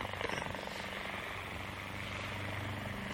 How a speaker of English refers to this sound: Listen. What's that? No, not... No, no, listen. It's a plane. Well, it can't be. Wait. Wait. Huh? There it is. Look, there. A helicopter.